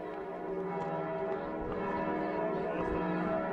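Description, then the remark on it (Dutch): The bell of the Gothic cathedral in Vienna rings out continuously for early morning Mass, its rich, layered metallic tones overlapping and sustaining at a steady loudness throughout, with no voices present. “De klok begon te luiden voor de vroegmis.”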